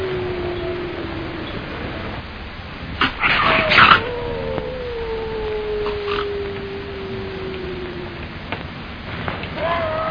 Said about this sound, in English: Hear him? Wolves is nothing to me.